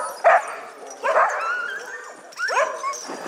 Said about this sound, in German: Da hört man Hunde, man hört Geklapper und man hört Schritte im Schnee. Das war schon Ende Januar 2023 bei einem Hundeschlittenmarathon, ganz hoch oben im Norden.